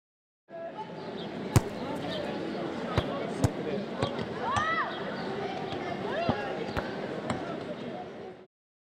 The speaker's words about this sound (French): I can hear people playing football. J'entends des gens jouer au foot.